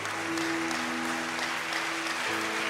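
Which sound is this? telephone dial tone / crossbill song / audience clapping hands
audience clapping hands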